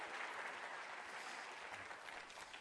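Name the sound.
audience applauding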